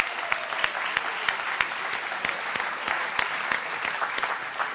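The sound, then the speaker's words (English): An audience at the Free Library of Philadelphia claps steadily in a dense round of applause for the library, with many overlapping hand claps and a few sharper individual claps standing out, lasting several seconds at even loudness. “Let's give the library a round of applause.”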